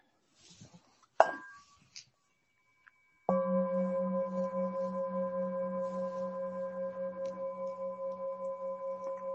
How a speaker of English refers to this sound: Does that bell sound okay?